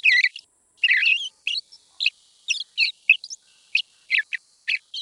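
A young male songbird in its first learning stage, subsong, recorded in August, babbles in soft, irregular bursts of twittering and chirping notes, rambling and unstructured with short pauses between phrases, with no other sounds.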